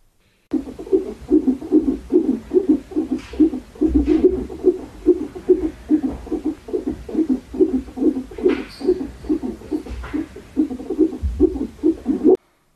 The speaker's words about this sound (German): Für die, die nicht wissen, was das sein könnte, das ist der Herzschlag von unserem Baby. Den habe ich gestern das erste Mal gehört. Mein Mann sagt, das hört sich ja an wie Tauben, die Samba tanzen.